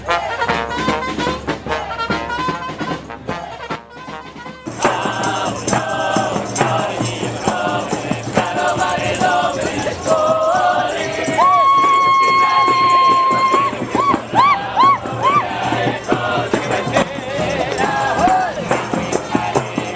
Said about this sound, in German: Hier ein wenig Aufmarschatmosphäre vom Opernplatz.